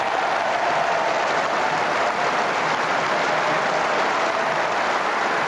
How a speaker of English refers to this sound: recorded the applause when first herself, then himself, walked onto the platform in Blackpool yesterday